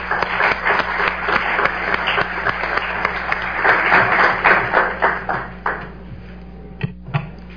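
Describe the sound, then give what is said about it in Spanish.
An audience applauds to welcome speaker Dr. Mariano Jabonero, in a dense, steady wash of many hands clapping, holding strong for several seconds before thinning out to a few scattered claps at the end. “Entonces, basta de preámbulos y le daremos la palabra a nuestro amigo, y además que va a ser muy, muy interesante su participación, al doctor Mariano Jabonero, para quien les pido un muy fuerte aplauso.”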